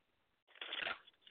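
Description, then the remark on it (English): A brief riffle of cards being shuffled, a soft papery rush that swells for about half a second and fades, fairly quiet, with no talking. “Okay, a little bit of shuffling.”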